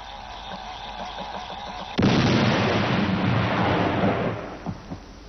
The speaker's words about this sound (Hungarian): Őrnagy elvtárs, a robbantást előkészítettem. Fedezzék be! Tűz!